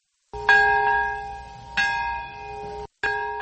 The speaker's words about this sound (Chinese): 在原子弹70年前爆炸的那一刻，长崎和平公园响起钟声。